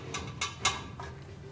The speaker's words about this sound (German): Und wenn man die Schublade aufmacht, dann knistert es auch. Und zwar, das sind Hüllen, die so knistern, Papierhüllen für Ukulele-Strings. Verschiedene Hüllen, Mandolinen sind auch, glaube ich, zwei dabei.